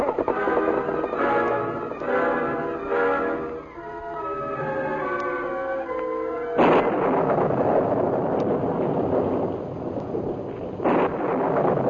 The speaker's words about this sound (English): One of the worst storms in the history of Dakota Territory swept across the Badlands that night. In the beginning, it was a fine rain. Then, as the temperature dropped rapidly, the rain changed to sleet and icy pellets of driven snow